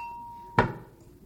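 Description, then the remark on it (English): A bell is rung: a steady, mid-pitched ringing tone holds, then a single sharp, loud strike cuts in and fades over about half a second, with no voices. “Now let me ring the bell again.”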